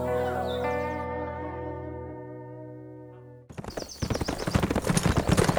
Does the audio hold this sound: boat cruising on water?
no